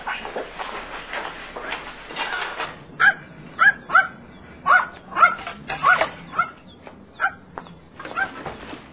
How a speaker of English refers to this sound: What are you barking at, boy?